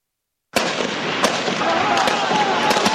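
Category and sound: impact, gunfire and explosions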